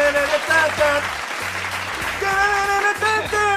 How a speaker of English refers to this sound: Let's give yourself a round of applause. Hey!